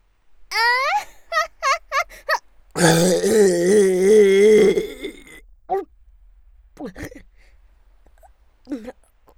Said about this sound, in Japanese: なんかめちゃくちゃでけえゲップ出ちゃったんですけど。